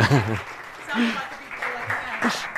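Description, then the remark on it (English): Steady audience applause, a dense wash of many hands clapping at moderate loudness, with a voice talking briefly over it at the start and a few more spoken fragments through it. “I think we can give them another round of applause.”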